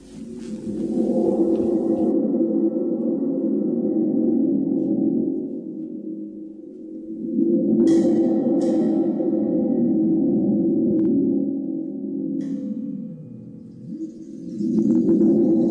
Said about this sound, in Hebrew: השם הוא, אתם מוכנים? תוף רעמים. תוף רעמים.